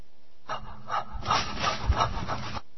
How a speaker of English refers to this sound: Oh, that's breathing, isn't it?